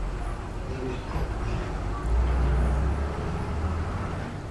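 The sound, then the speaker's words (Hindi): Steady low rumble of passing vehicles fills the background, with engine drone swelling a bit in the middle before settling back into continuous road noise. “ऐसे बहुत आवाज नहीं है, बस है गाड़ी से, बस बस है।”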